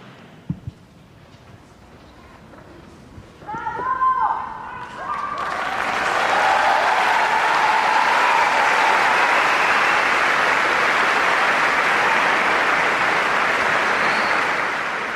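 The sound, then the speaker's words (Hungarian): Loud, dense applause from a large crowd at the end of the audience in the Paul VI Hall swells up after a few brief sung or spoken tones, then holds as a steady, continuous roar of clapping until the end. “Kedves hallgatóink, ezzel a tapssal ér véget a mai napon is az audiencia a 6. Pál teremben.”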